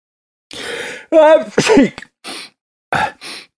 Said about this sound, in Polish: Pan Suseł znowu poruszył nosem i głośno kichnął. Tym razem trochę opluł doktora Kunę, który pochylał się nad nim, drażniąc jego nozdrza piórkiem.